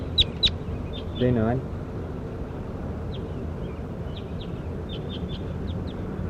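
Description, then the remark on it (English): A bird, J9, being recorded, calls with two sharp, high chirps, then a brief buzzy, harmonic call, followed by a scattering of faint, high chirps over a steady background hiss. “Start recording bird J9.”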